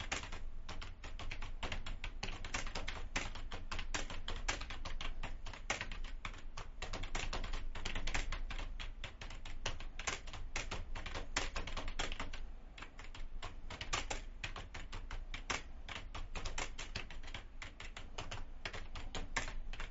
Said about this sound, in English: I don't know what I'm typing here.